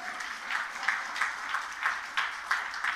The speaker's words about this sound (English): Come on, let's give Jesus a clap offering.